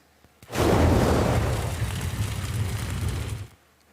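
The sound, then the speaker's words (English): A layered whoosh built from a jet fighter flying by and a gust of blizzard wind, laid together to exaggerate the sound: a loud, roaring rush with a deep rumbling low end that starts abruptly, holds steady for about three seconds, then cuts off. “I use the sound of a jet fighter flying by. And then I used a gust of wind from a blizzard, and I laid it together and then created this.”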